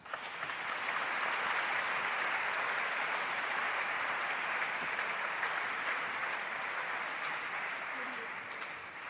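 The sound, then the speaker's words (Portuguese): Sustained applause from an audience for members of the Portuguese Assembleia da República, a dense, steady wash of many hands clapping at even loudness for the full nine seconds before easing slightly at the end. “Para estas senhoras deputadas e para estes senhores deputados, peço o vosso aplauso.”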